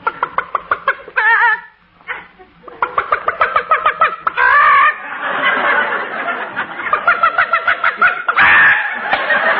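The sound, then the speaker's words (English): Chickens being fed corn cluck in quick, busy bursts, with some drawn-out squawks mixed in. The clucking runs almost continuously, with only a short pause near the start. “We've got to feed the chickens.”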